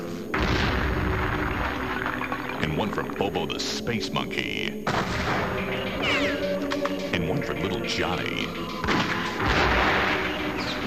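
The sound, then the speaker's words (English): Loud, repeated gunshots boom out in sharp bursts a few seconds apart, heavy, while a man keeps talking over and between the shots. “And one because I have ammo left.”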